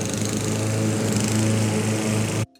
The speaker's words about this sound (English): Outside Lily's mansion, gardeners ride stand-on lawnmowers.